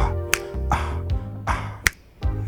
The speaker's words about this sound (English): This a finger snapper. Come on, y'all. Snap your fingers with me. Come on.